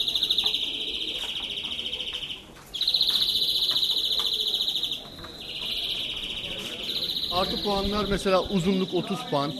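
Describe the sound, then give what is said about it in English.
Two caged songbirds at a birdsong contest call to each other, trilling and warbling in long, bright high-pitched bursts, one song following another almost without pause, while a person's voice comes in underneath toward the end. “And finally, if they get lucky, two birds start calling to each other.”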